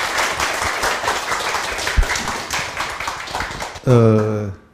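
A room full of people claps steadily for nearly four seconds to welcome the main lecturer, a dense, even patter of many hands, before it cuts off and a voice starts speaking.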